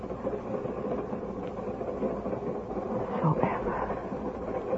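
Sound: moving train rumbling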